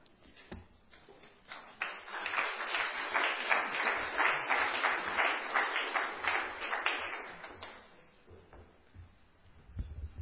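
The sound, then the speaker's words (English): Audience applause after a youth leader's talk at a service swells quickly into a dense, steady patter of many hands clapping, holding for several seconds before thinning out and fading, with no voices over it. “Why don't you guys clap when I preach, eh?”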